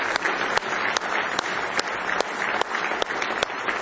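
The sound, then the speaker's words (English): An audience claps steadily in a hand clap of praise to the Lord, a dense wash of many hands with a few sharper rhythmic beats standing out roughly every half second, sustained and fairly loud without any talking. “Let's give Him one more real good hand clap of praise.”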